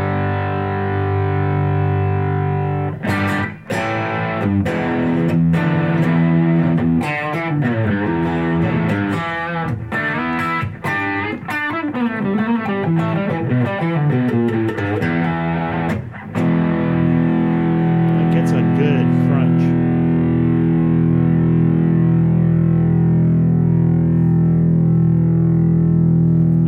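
A Robert Cray model Fender electric guitar, heavily overdriven and set up for an overblown sound, with thick, saturated distortion, playing a run of sharp picked chords and notes before settling into a long, humming sustain. Loud, with no talking.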